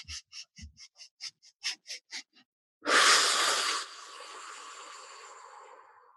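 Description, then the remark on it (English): A quick run of about a dozen short, rhythmic breaths into the low belly, then a loud, forceful whooshing exhale that tapers off into a long, softer breath. Clear, with no talking. “Keep breathing into your low belly.”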